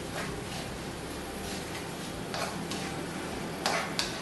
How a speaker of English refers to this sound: And you can hear the onions starting to sizzle and cook. The oil is nice and hot.